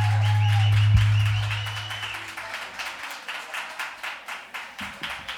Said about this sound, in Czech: A teď většinou zazní bouřlivý potlesk, ale naposledy, když jsem hrál v Litovli, tak tady byli tři lidi a to bouřlivý potlesk nevyvolalo. Teď je tady raz, dva, tři, čtyři, víc.